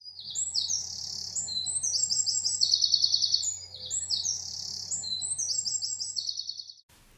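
A wren, a small garden bird, sings a rapid, complex warbling song, producing two different notes at the same time, continuing in fairly loud phrases over a steady low hum, with no talking.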